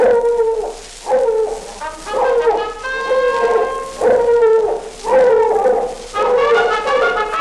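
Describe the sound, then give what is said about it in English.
A hound dog bays loudly and repeatedly, about one drawn-out, mournful bark per second for several seconds, clear, with no one talking. “Let's hear that old hound dog bark and the sound of a hunting horn.”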